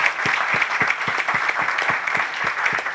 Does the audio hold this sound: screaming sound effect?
no